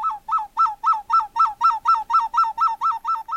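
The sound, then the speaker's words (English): A small clay ocarina imitates the call of an Amazonian bird: about fourteen short, bright hooting notes repeated in a quick, even rhythm, played fairly loud with no talking. “He played the sound of an Amazonian bird on a small clay ocarina.”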